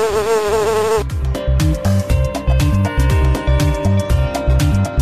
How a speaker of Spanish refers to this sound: No soy florista, pero vivo entre las flores y, aunque me resista, el hombre me arrebata mis dulces labores. ¿Quién soy? La abeja.